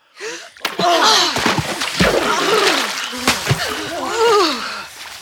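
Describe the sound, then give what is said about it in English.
A loud splash as people jump into very cold water, followed by sloshing, churning sounds as they swim to a castle, with gasping, groaning vocal cries layered over the noisy water throughout. “Professor Wong and his friends swam to the castle. The water was very cold.”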